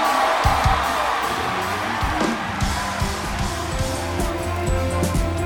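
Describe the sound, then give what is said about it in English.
An audience cheers and shouts together in a dense, steady roar, with scattered whoops and yells rising over a low rumble throughout, loud. “Get to clapping, shouting, spinning, running, dancing, waving.”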